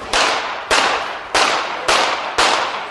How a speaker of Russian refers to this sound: Пять раз выстрелил, чувак, пять.